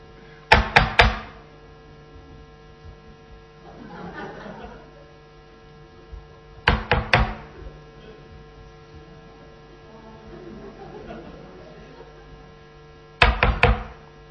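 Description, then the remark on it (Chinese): Three separate bursts of quick, sharp knocking, three or four raps each and several seconds apart, made to imitate knocking on a door, over a steady low hum with faint murmuring between. “行， 这就是敲门， 好 不好？”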